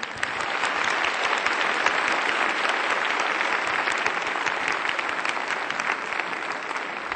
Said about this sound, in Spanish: Brindémosle un caluroso aplauso de bienvenida.